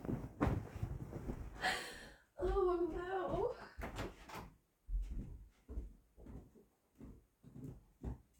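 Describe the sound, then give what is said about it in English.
A door handle smeared with lube clatters and the door swings open with a brief squeaky creak, followed by a person speaking quietly. “Please remind me to clean the lube off the door handle.”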